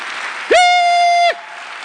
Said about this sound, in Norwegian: Og det beste av alt, Marit Myklebust her I kveld. Ja da! Ja, det var applaus!